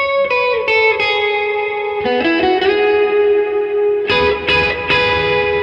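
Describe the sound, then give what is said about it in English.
An electric guitar plays through a Sunset overdrive, reverb, Deco and Timeline pedals, picked notes and chords ringing out in a short melodic phrase with lush reverb and delay, repeats trailing behind each attack, loud with no talking. “And then, so just for people keeping a track at home, it was just the timeline and the deco, right? The sunset, the okay. sunset drive, reverb, and the timeline, yeah.”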